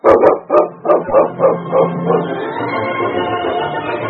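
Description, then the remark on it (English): A dog, King, barks loudly, about seven quick, evenly spaced barks in a row. A steady, sustained background sound follows once the barking stops. “You and the bunny doggy sure did a fine job, Sergeant.”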